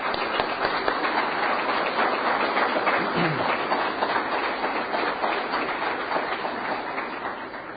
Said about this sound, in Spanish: Desde todos nosotros aquí en este chiquito lugar, les mandamos un fuerte aplauso a todos ustedes.